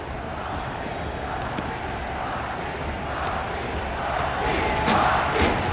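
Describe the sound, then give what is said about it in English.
A vast crowd's dense murmur fills an arena, swelling gradually louder toward the end with scattered shouts and whistles rising above the steady roar. “The buzz is building toward a roaring crescendo.”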